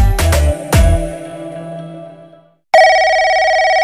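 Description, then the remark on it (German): A telephone rings loudly: a few sharp, ringing bell strikes that fade out, a brief silence, then a steady electronic ring tone sounding on its own with no voices. “Zu Hause auf dem Festnetz oder unterwegs am Handy. In diesen Tagen rufen Markt- und Medienforscher zufällig bei Radiohörern an.”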